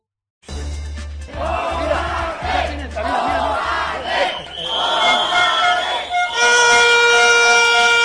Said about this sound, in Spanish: Cerca de 200 trabajadores de la Diputación, con pancartas, gritos y silbatos, boicoteaban esta mañana el pleno que esta institución celebraba. El motivo no era otro que el incumplimiento del convenio colectivo en cuanto al pago de horas extras